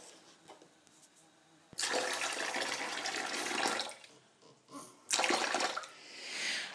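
Water gushes into a cooking pan to cover the food in it, in a loud, steady rush that starts suddenly after a quiet moment, breaks off briefly, then pours again with a hissy splash. No one speaks.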